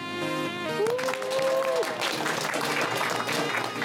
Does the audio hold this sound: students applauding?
yes